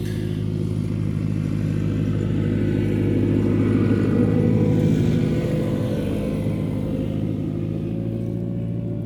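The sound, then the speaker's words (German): A tractor's heavy diesel engine rumbles loudly and steadily as it passes by, its low throbbing drone swelling slightly in the middle with some mechanical clatter, no voices present. “Hier kommt gleich der Traktor vorbei und dann hören wir wahrscheinlich nichts.”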